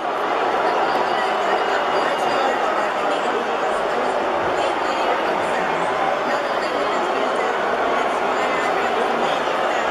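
A large concert crowd roars with sustained, loud booing, a dense unbroken wall of jeering voices that keeps up steadily without pause.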